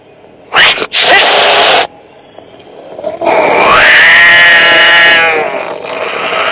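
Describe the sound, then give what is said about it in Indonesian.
A cat in front of a headless statue gives a short, harsh spitting snap, then after a brief pause lets out a long, drawn-out angry meow, loud with no other sounds around it. “Ia melihat ke arah patung sambil terus mengeong. Meng. Meng.”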